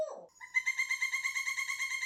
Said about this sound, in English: And I love that you can hear his bird in the background. That's so cute.